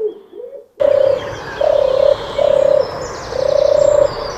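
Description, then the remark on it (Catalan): A pigeon coos in a series of four low, hollow notes at an even pace, clear against a soft outdoor background hiss. “És clar, potser aquests són els sons més coneguts, estem escoltant colons.”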